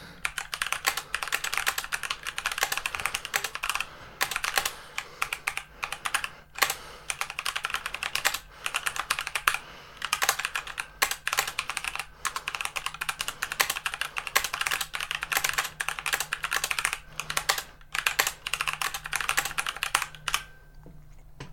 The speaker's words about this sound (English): I'm not going to exactly open up any applications, the keyboard's off at the moment, but I'm just going to type a few keys and you can hear what it sounds like.